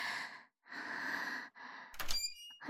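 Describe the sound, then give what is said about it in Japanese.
Three slow, airy deep breaths are followed by a door in a home abruptly opened without knocking: a sharp clack and brief scraping rattle, then a dull thunk. No one speaks. “ちょ、急にドア開けないでよ。”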